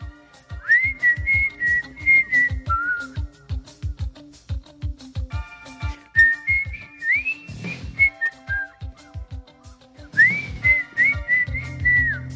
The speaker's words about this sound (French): tout à coup, durant son émission Podium, elle se met à siffler